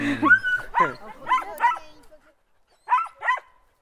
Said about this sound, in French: Ils sont vifs, ces chiens, dis donc, hein.